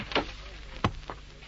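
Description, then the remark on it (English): A door is opened, giving a few short clicks and knocks from the latch and hinge, fairly quiet, with no one speaking. “Let me open the door for you.”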